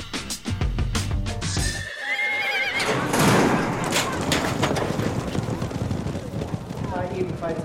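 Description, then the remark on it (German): Racehorses in a horse race neigh and whinny over the rapid, steady drumming of galloping hooves, a loud, dense rush of sound with indistinct voices mixed in throughout. “Vorne war es bis jetzt ein Zwei-Pferderennen, aber Genghis Secret macht den Boden gut.”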